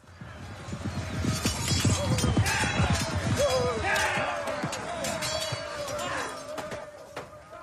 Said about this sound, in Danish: Kan du fornemme stemningen af et slag imellem ridder og fodsoldater? Mid-evil. Nee. Mid-evil shit. Det lød mere som vinterferie i Prag. Det er også der, vi har den fra.